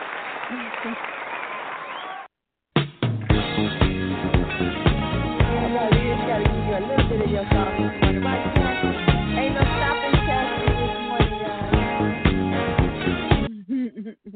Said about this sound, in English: That's our theme song. We're going to play it on the way out.